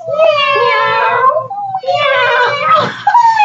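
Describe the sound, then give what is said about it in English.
Voices imitate cats with drawn-out, high, wavering meows, two long mewing calls back to back with bending pitch, loud and alone with no ordinary talk. “Can we take a minute and also meow for these women?”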